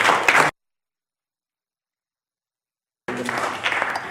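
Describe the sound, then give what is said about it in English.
An audience claps their hands for the Lord in a dense, steady patter. A brief burst cuts off into silence for a few seconds, then the applause returns and carries on to the end. “Let's all give the Lord a hand clap”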